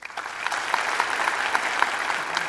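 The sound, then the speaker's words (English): An audience claps to vote on whether a news story is real or fake, a steady, dense wash of overlapping hand claps at moderate loudness, with a few sharper individual claps popping out of the rattle throughout. “Clap your hands if you think this is fake.”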